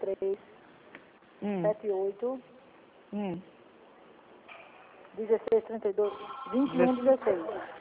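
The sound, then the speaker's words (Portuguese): A telephone rings in repeated bursts, its tone thin and band-limited, with voices heard speaking around it and a busier stretch of overlapping ringing and talk toward the end. “Veja esse telefone que tá pegando,”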